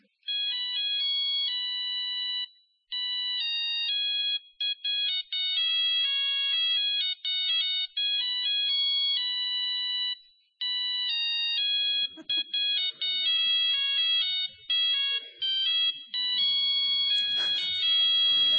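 A mobile phone ringtone plays a bright, electronic, beeping melody that repeats in short phrases for almost twenty seconds, fairly loud, with some scratchy background noise creeping in toward the end.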